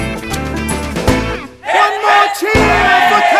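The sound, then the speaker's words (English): A ship's crew of men cheers and shouts together for everybody's success, loud, a rowdy burst of overlapping voices that dips briefly before surging up again. “We'll have grog served out for you, and we'll cheer for everybody's success.”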